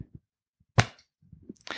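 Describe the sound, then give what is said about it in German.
One sharp, loud hand clap, made on request, cracks out on its own, then fades into quiet, with a few soft low thumps and a short rush of noise afterward. “Okay, dann bitte ich dich jetzt mal zu klatschen.”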